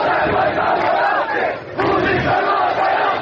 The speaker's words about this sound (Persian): گسترده ترین اعتراضات اما روز شنبه و از شهر تبریز گزارش شد. تظاهرات مردمی که برای اعلام همبستگی با مردم خوزستان و با شعار آذربایجان بیدار است حامی خوزستان است برگزار شد.